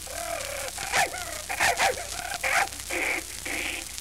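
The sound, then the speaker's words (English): A dog named Princey, set on a whitewash man, barks in a quick series of short, sharp yaps, followed by two higher, drawn-out whining cries, with no talking. “Look here, dog, if you come near me, I'll bite my initials on your back.”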